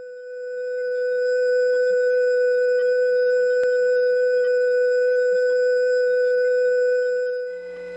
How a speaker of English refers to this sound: See, that crossbar 5 receiver off hook tone is in there. By the way, my filtering wasn't perfect. There was sort of an airplane engine type sound that I was unable to filter out.